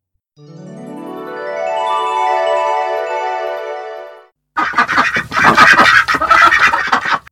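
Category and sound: bird, duck quacking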